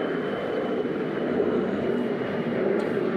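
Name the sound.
airplane taking off overhead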